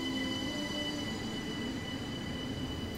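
A train at a station platform: a steady rumble with sustained high-pitched wheel squeal and faint tonal whines above it, continuous and fairly loud throughout, with no voices.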